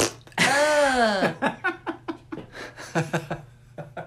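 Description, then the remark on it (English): A voice blows a long, buzzy fart imitation lasting about a second, followed by a run of short, bursty chuckles. “Didn't even have to look at you to do a fart joke with it. It was real.”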